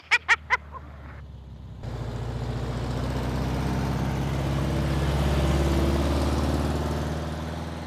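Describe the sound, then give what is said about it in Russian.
Three short, quick beeps, then the rumble of four or five car engines sets in and swells into a steady drone as the cars carrying a newlywed couple arrive. No one speaks. “А кто там первый-то едет? О, 4-5 машин.”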